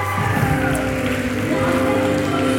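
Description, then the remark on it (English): A crowd claps in a dense, steady wash of applause for the people downstairs, lasting a few seconds, with no break in the clatter and a faint low hum underneath. “Come on, give them a big round of applause, you guys.”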